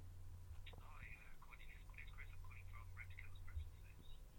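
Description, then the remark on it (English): A phone rings with a rapid, repeating electronic trill, fairly quiet and steady throughout, over a constant low background hum. “I'm getting a phone call.”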